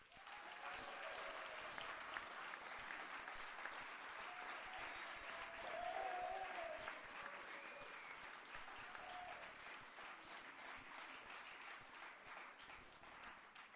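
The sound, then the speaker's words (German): Sustained audience applause as a vote for the Referendumskomitee for the 2007 main audience award, a dense, steady wash of many hands clapping for about fourteen seconds, swelling slightly in the middle with faint cheering before holding level to the end. “Bitte Applaus jetzt.”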